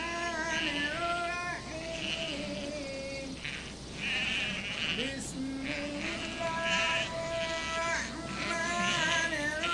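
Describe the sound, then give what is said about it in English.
A flock of sheep bleats almost nonstop, many wavering cries overlapping, as a shepherd goes out and calls them, his calling voice briefly mixed in among them; recorded on a phone. “It might be a little hard to hear, but it's of a shepherd going out and calling the sheep.”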